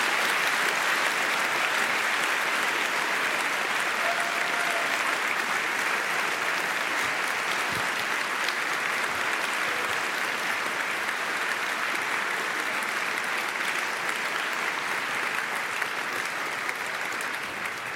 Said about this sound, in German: Ihr dürft jetzt noch einmal bitte für ganz oft in die Hände klatschen, für das, wenn euch der Vortrag gefallen hat. Dankeschön.